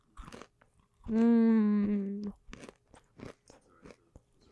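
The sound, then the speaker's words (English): Crisp crunching of someone chewing almond roca toffee candy, a series of sharp bites spread through the moment, interrupted by a sustained hummed tone in the middle. “can you hear me crunching?”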